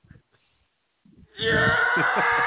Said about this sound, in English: Yeah. Just a scream of jealousy. A scream of jealousy. Yes. Scream of jealousy. Frustration. Madness.